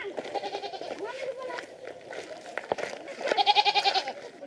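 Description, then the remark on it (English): Several goats bleat in wavering, quavering cries, overlapping and repeating, with a louder burst of bleats near the end and a few sharp clatters in between. “And if you decide to sit on top of the bus, you're up there with the goats, and sometimes the goats and chickens are inside with you, and that's an all-day bus ride”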